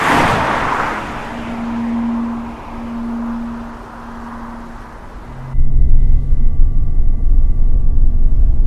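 A police car drives along an unlit highway at night, following a van, with a steady whooshing road noise and a low engine hum, then cuts abruptly to a louder, deep rumble like the sound from inside the moving vehicle.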